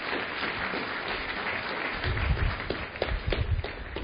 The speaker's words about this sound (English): But God bless you. This is a great act of faith on their part. So give them a round of applause, please.